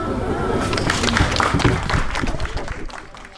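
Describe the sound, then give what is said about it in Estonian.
An audience claps steadily for a few seconds for a band, a dense, even wash of many hands clapping together that tapers off slightly at the end. “Tugev aplaus ansamblile …”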